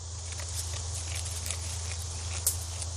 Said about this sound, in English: It's pretty quiet in Laurel Grove North Cemetery on the west side of the city. Just some goats chewing away.